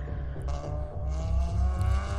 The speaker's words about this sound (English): And so the cars and just the sound of engines closing in